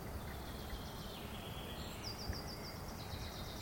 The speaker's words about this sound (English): It's daytime. The day breaks. Morning birds chirp. The forest is alive again, but alive in the way that a forest typically is, not alive in the way that it is watching you and waiting on you.